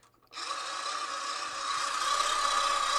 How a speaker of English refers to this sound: That's called a growler. And that same noise would come out of the other phone that you were trying to contact, and they could pick them up and talk to each other.